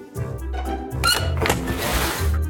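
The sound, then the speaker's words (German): A door creaks open with a strained, high squeaking whine that rises and wavers for about two seconds, mixed with low thuds and a rumbling bass underneath; no one speaks. “Die quietscht.”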